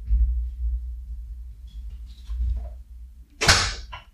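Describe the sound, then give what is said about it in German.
A door shuts with a single sharp thud and brief rattle near the end, after a stretch of low rumbling background noise and faint shuffling. “Tür zu!”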